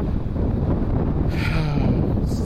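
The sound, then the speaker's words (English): Strong wind buffets the microphone in a continuous loud low roar, with rumbling gusts and no other sounds standing out. “I'm gonna turn this off. It's too windy.”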